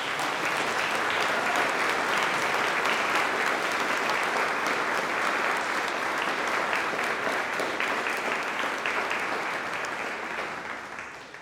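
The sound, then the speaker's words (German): A large group claps steadily and warmly as someone beginning their service is welcomed with blessings and gifts, dense overlapping applause for several seconds before gradually tapering off at the end. “Ja, alles Gute, Gottes Segen, und wir dürfen jetzt, glaube ich, mal alle klatschen.”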